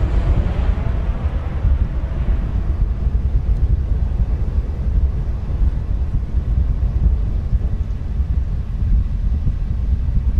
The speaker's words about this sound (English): I like the sound of the plane's engine.